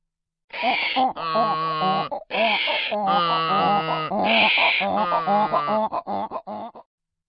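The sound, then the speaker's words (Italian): A human voice imitates two donkeys braying loudly together in chorus, a run of strained, honking hee-haw calls with raspy breathy bursts, continuous for several seconds before trailing off in short gasps. “Invece di gemiti e di lamenti, mandavano fuori dei ragli asinini. E ragliando sonoramente facevano tutte e due coro.”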